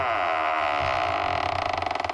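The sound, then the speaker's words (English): A heavy vault door creaks open in one long, groaning sweep, the strained metal tone turning into a rapid rattling judder toward the end, loud with no voices. “Here we go, opening up the vault door.”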